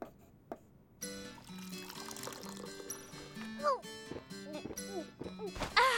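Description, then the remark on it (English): Tea pours steadily into a glass in a short trickling stream, its gurgle rising as the glass fills, with voices murmuring in the background. “Another glass”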